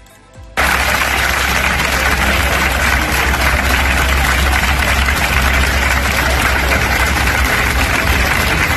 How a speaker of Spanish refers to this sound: Aplausos de los sanitarios de los hospitales de la provincia de Castellón hacia sus compañeros de la unidad de cuidados intensivos del Hospital La Plana.